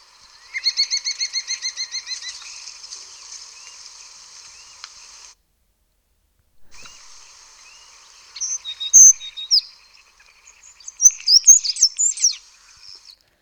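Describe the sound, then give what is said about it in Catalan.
A common starling sings, mixing rapid repeated whistled notes with varied chirps and clicks that mimic other birds, with a short pause midway and a burst of squeaky, scratchy phrases near the end. “De totes maneres, per algú que entengui un poc de cants, notarà una cosa curiosa d'aquí, i és que, encara que era el cant de l'estornell, ha sonat una altra cosa.”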